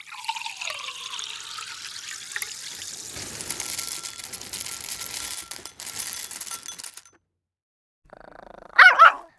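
Dogs growl and shuffle amid a steady watery hiss during morning breakfast in a chalet in a mountain forest, then after a brief silence a sharp, loud bark bursts out near the end.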